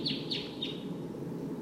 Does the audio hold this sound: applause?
no